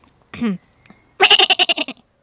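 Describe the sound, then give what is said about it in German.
A person imitates a bleating goat kid: a short falling cry, a brief pause, then a louder, quavering bleat broken into about seven rapid pulses. “Warte mal, ich will auch mal eine Ziege imitieren.”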